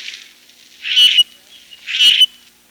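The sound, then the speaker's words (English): Two harsh, raspy grackle calls ring out about a second apart, loud, each a brief grating squawk with a faint background hiss between them. “If you are the kind of person who likes a shameless, gluttonous baby killer, then the grackle is the bird for you.”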